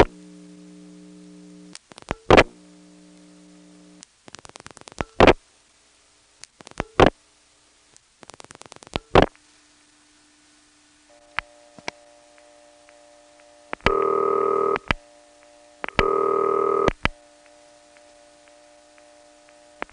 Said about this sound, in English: Here's a local call dialed from Bogart Statham, Georgia to Athens, Georgia. Of course, I don't have to put a dime in to make the call, but when the party answers, you get a second dial tone. The second dial tone is coming from the central office.